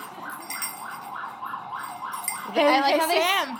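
An ambulance siren wails in a steady, rapid up-and-down cycle, then a louder wavering voice-like howl joins in over the final second.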